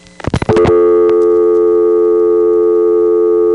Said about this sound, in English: The trick about depositing a dime while she was still on the line was to get the beep-beep sound out of the way so that when the actual dial tone came on, we'd actually get to hear it as it is, which is this.